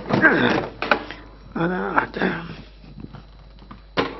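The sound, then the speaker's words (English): A small chair is lifted and set onto another chair, with several knocks and clatters, a creaking scrape in the middle, and a final sharp bump. “I wonder why these chairs are so small. I think I have to put a second one on top”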